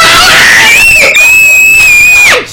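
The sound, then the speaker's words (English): A loud, drawn-out shout of the catchphrase "the knockout punch" yelled in unison by an audience, held at a high pitch for about two seconds before dropping off sharply at the end. “We're going to say, it is now time for, and you guys yell out, the knockout punch.”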